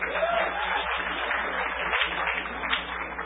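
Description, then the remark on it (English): An audience applauds steadily, a dense, even wash of many hands clapping at once that holds at a fairly loud level for a few seconds without a clear break. “Applause, please.”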